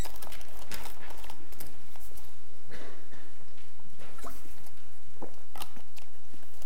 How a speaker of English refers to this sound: I'm sorry, I have to get a drink or I'm going to start coughing.